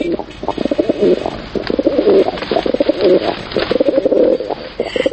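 A pigeon coos steadily, its low, throaty calls rolling in a repeating rhythm of four or five phrases with barely a pause, faint background hiss underneath.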